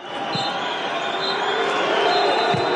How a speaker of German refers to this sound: Am Ende haben sie die Mannschaft ausgebuht. Ein zynischer Sturm, wie der Reporter des Senders ITV feststellte. Nach der 1:3-Niederlage gegen Senegal waren viele Fans fassungslos.